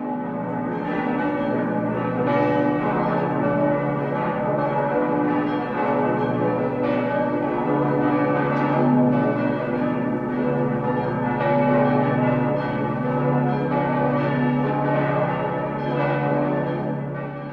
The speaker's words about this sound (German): Und nun läuten Glocken die Weihnacht ein.